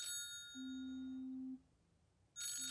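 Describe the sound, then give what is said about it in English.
A phone rings with an electronic ringtone for an incoming call from an Argentina number: bright chiming tones give way to a steady low tone, then a short pause before the ringing starts again. No one speaks. “He receives a call from an Argentina number.”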